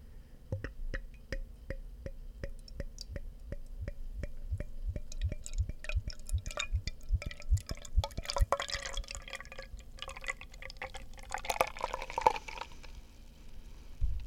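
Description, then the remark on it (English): A freshly opened beer pours into a glass, starting as a steady series of drips and glugs, then swelling into a louder rushing, fizzing pour before trailing off. No one speaks. “All right, let's give it a pour.”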